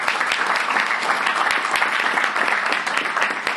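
Sustained audience applause for the volunteers who made the event happen, a dense, steady wash of many hands clapping at an even loudness throughout, with no pauses and no voices standing out.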